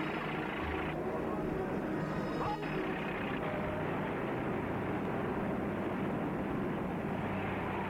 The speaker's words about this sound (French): Il entend le camion se remettre en route.